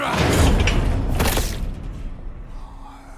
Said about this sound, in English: I sprinted across the corridor and rammed the door with my shoulder.